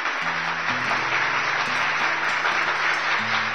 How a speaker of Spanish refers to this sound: Aplausos.